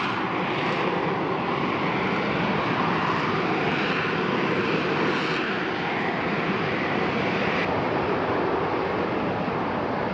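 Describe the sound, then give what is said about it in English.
A Harrier fighter jet flying overhead, its engine roaring loudly and steadily for the whole stretch, a broad rushing drone with a faint whine on top and no voices. “It's a fighter jet.”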